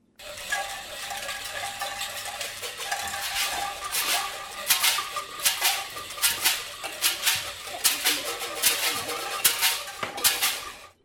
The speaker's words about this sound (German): Sie machen mit Alltagsgegenständen Musik und zeichnen Partituren. Erwachsene mit Handicap und Kinder werden zum Orchester.